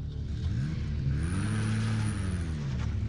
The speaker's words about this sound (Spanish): Entonces en ese momento yo escuché que prendieron un carro y salieron a miles.